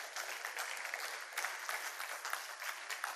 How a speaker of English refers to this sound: That is pretty sorry. That's a golf clap, you know, either do it or don't do it. So that's one step away from boo, you know?